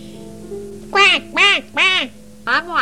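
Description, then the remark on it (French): A voice imitates a duck, giving four nasal, quacking calls in a quick, slightly uneven rhythm, fairly loud, with a faint low hum underneath. “Dit le canard.”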